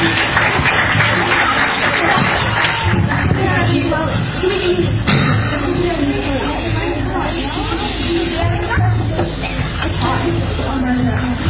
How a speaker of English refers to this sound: All right, y'all give them one more round of applause. They did well. Thank y'all.